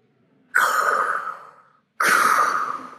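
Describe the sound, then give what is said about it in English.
A voice mimics Darth Vader's heavy mechanical respirator breathing: two long, loud, hissing breaths, one drawn out and fading, the next cut off, with no talking. “Breathing threats and murder always makes me think of Darth Vader.”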